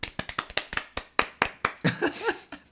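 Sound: hand clapping applause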